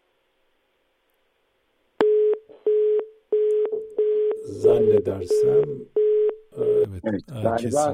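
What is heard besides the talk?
phone line cut off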